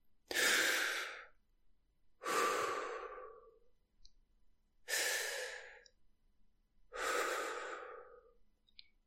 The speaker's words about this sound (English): I started this post with the breathing, and we're going to end with the breathing too